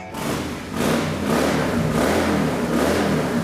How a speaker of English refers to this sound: I'm going to fire up the motorcycle. Going to get it all fired up here. Here we go. Can you hear that?